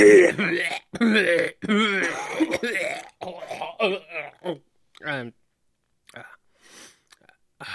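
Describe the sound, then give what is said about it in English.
A person loudly clears their throat with rough, gargling rasps, followed by several short coughs and hacking bursts that fade into quieter, breathy throat noises. “Get on coughing up that xenomorph.”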